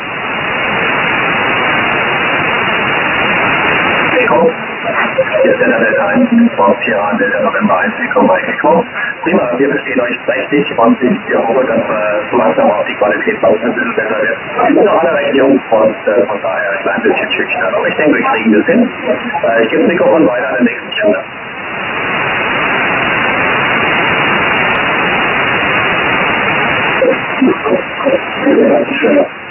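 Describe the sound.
A radio transmission: steady hiss of static opens, then a tinny, band-limited voice talks over the channel before the static hiss returns, loud throughout.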